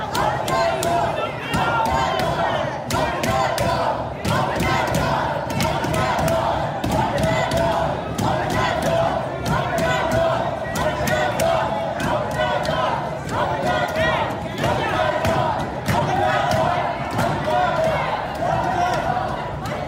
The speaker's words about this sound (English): voters took to literally banging on the doors of the Kentucky Exposition Center during the primaries as the 6 p.m. deadline to vote neared.